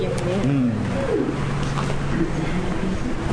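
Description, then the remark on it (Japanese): An Egyptian goose calls in a series of low, hoarse honks and hooting notes at a zoo in Osaka, over a steady outdoor background with faint voices and ambient noise. “あ、さっきの鳥はあれだ、エジプトガンだって。”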